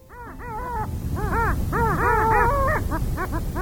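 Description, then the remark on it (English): A flock of long-tailed ducks calls in quick, yodeling bursts, nasal rising-and-falling notes overlapping in an excited chorus that carries on without pause, fairly loud. “Hear that? That's our bird of the month for January, the long-tailed duck.”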